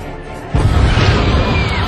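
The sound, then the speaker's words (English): After a brief quiet lull, loud gunfire erupts abruptly and keeps going as a dense, booming roar of shots that blur together, heavy, with no voices. “Those aren't fireworks!”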